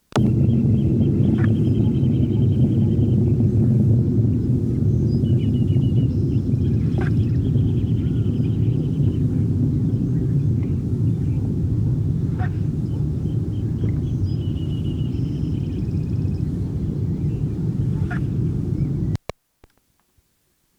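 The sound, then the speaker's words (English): A juvenile Eclectiana hummingbird, its bill about 95% of full length, with scattered red feathers in the throat and auriculars but none in the crown, sings repeated sequences of thin, high, scratchy notes with occasional sharp ticks, over a steady low rumble of background noise that cuts off abruptly near the end. “sequences by Eclectiana juvenile, whose bill was about 95% of full length, with scattered red feathers in the throat and auriculars, but none in the crown.”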